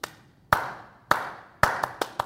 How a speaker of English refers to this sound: Somebody's clapping.